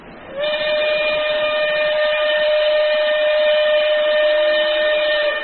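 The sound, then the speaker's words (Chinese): A loud steam train whistle blows one long, steady, unbroken blast lasting several seconds as a train departs Nanjing, with a faint low rumble of the train underneath. “坐着火车目送着那一群逃难的百姓逐渐远去，心里有点难过。”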